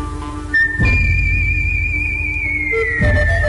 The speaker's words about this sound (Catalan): Fins ara, exclusivament hem tingut aquest singular duet de xiulet i marranzano, i a partir d'aquí apareixerà algun element de percussió.